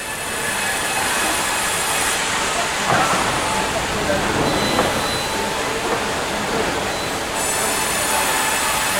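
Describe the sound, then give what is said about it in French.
A loud, steady mechanical roar of a wood grinder runs throughout, with harsh grinding and a couple of sharper crunching bursts as material is chewed up. “Ah, le broyeur, les corseuses. Ouais. Ah bah oui, là, elle croque.”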